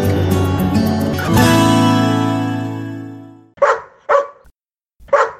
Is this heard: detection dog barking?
yes